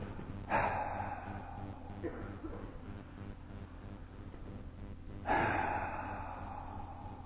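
Two deep, audible exhales, each a breathy rush of air that fades slowly, spaced about five seconds apart with quieter breathing in between and no talking.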